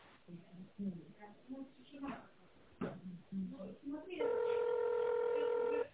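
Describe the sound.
A tinny, phone-line automated greeting from a tractor and spare-parts supplier asks callers to dial an extension in tone mode, then a single loud, steady touch-tone beep sounds and holds unbroken for nearly two seconds until the end.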